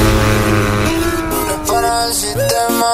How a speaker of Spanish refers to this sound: Arranquen los motores. Ha llegado la hora de pisar el acelerador.